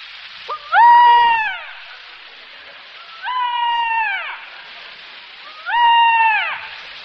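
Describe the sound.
A voice imitates a peacock's call: three loud, drawn-out wailing cries, each holding a high, nasal pitch before sliding downward, separated by short pauses, with no other sounds.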